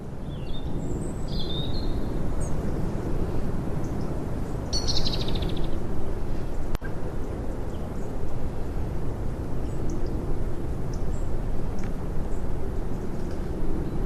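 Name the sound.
birds chirping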